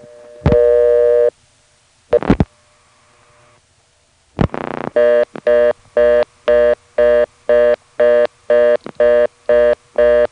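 A telephone reorder tone on a local line, occurring because the callback circuit is in use on another phone: after a brief tone and a couple of line clicks, a loud, fast busy-style tone pulses on and off in a steady, rapid rhythm.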